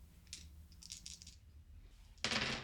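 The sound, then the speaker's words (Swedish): Dice roll across a table for an empathy roll in a game: a few light clicks and a quick cluster of small rattles, then a louder clatter near the end. Nobody speaks. “Steve kan slå ett empatislag när du tittar på Edvina.”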